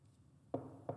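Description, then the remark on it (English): Two solid knocks on a door, spaced a moment apart, with a dull wooden thud, as a baker knocks at Mr. Mueller's door. They are fairly quiet and stand alone against a low, steady background with no talking. “There was a knock on the door.”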